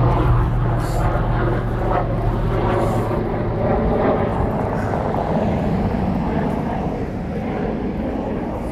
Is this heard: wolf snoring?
no